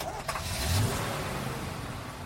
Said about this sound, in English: Bus?